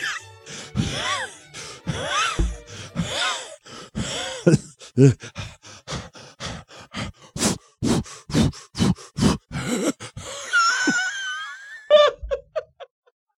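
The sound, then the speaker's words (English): A man imitates a runner's heavy breathing: loud panting that starts with groaning, moaning gasps and settles into a fast, steady rhythm of harsh huffs before trailing off. “You're running right now, and you've got headphones on, so you probably can't hear your own breathing. So let me do this, all right?”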